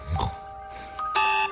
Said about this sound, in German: Bis der Wecker rappelt. Ja, ich habe Radio Ton im Wecker drin und werde damit geweckt und das ist ein super Start in den Tag.